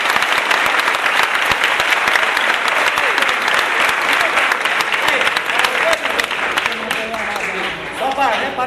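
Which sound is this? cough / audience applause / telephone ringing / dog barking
audience applause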